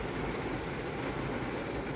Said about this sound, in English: I thought you guys might like to listen. Hopefully the rain and the thunder doesn't detract too much from it. Or maybe for some people it'll enhance it.